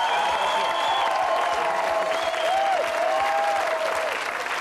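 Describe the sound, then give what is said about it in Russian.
A crowd applauds two-time Olympic and five-time world champion synchronized swimmer Asya Davydova, a dense wash of clapping hands that holds at an even, loud level throughout, with some brief tonal whistles or cheers rising and falling above it. “Для тех, кто не следит за тем, что происходит в мире, для тех, кто не знает, как нужно аплодировать героям, объявляю вам тупицам так, как надо.”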